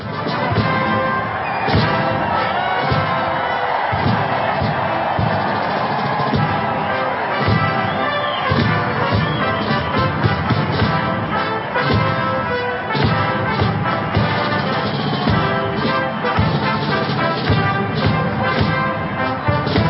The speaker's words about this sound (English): And it was perfectly timed because in this battle for good and evil, we do have Trump walking out right now with his beautiful wife, our first lady, Melania. Let's go to full screen and capture some of this audio, the applause.